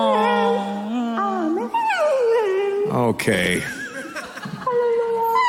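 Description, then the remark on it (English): A dog howls and whines in long, wavering pitches, rising and falling loudly along with praise music, while people laugh and a voice speaks briefly. “That dog is worthless.”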